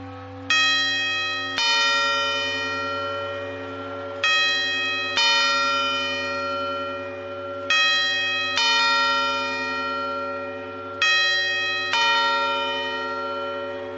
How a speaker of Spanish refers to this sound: Quedan 30 segundos para 2023. ¡Silencio! ¡Ahí está el carrillón! ¡Los cuartos!